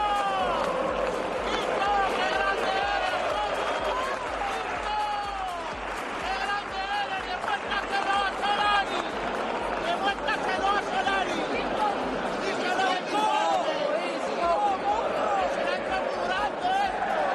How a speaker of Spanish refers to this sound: El otro día, desde la grada, cuando ya se sabía que Isco iba a ser suplente, se le gritaba esto al malagueño.